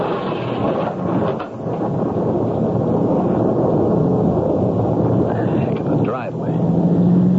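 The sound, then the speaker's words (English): Heavy rain pours down in a dense, steady roar while thunder rumbles low and continuous underneath, loud throughout, with no break in the downpour. “Gotta get a roof over my head till this downpour stops.”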